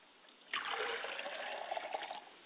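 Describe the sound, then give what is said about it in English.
Libation liquid poured out toward the north in a steady splashing stream, starting abruptly and running for about two seconds with a bright, hissing trickle before tapering off. No one speaks. “We pour libations to the north and we say, Ashe.”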